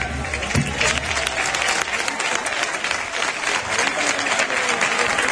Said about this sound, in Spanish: Los aplausos para Salva Vega, sin duda uno de los jugadores más destacados en la tarde de hoy.